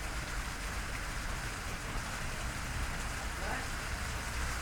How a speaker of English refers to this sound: I don't know if it'll pick up, but it's hailing very hard outside.